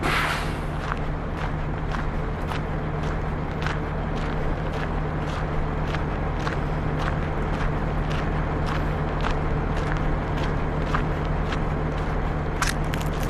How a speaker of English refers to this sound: I'm close to the roadhouse now. You can hear some of the massive road trains that go up and down the highway.